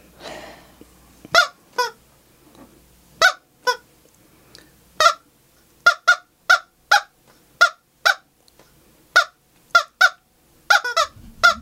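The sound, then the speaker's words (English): A person imitates a chicken with a string of short, sharp clucks, about a dozen or more, uneven in rhythm, fairly loud, with no talking in between. “Cluck on me. You guys are amazing. I am in chicken awe.”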